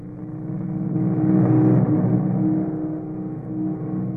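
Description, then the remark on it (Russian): A whole squad riding on motorcycles drives past, their engines droning low and steady, swelling louder toward the middle before easing off a little. No one speaks. “Целый отряд в мотоциклах.”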